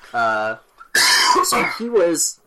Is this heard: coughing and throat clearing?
yes